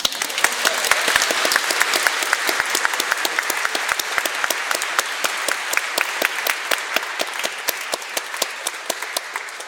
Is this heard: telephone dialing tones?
no